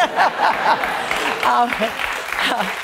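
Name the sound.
crowd applause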